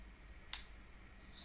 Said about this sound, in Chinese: 我没哭，吸鼻子。